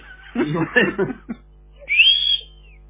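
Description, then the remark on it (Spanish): Brief murmured talk, then a single thin, high whistle that rises, holds for under a second and trails off downward, like wind whistling through a small hole. “Por un agujero que cuando sopla el viento chifla.”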